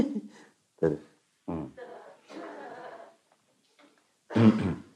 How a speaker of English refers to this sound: No, the coughing is not the answer.